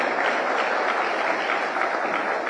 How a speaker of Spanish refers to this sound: Un fuerte aplauso